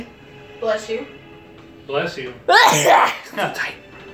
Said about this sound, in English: Bless you.